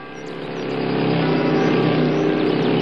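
A dense, steady engine roar swells over the first second and then holds loud, like several motorcycles rumbling in together in Warmensteinach, with no talking.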